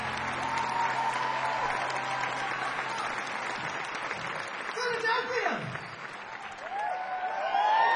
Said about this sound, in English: My friend over there has got his acoustic guitar, so he can sing you a sweet love ballad. So please, bring him on with a big round of applause. Let's hear it, boy!